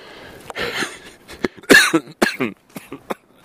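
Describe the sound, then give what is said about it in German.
A string of harsh, raspy coughs, several bursts in quick succession with short gaps, fairly loud, with no talking around them. “Hust.”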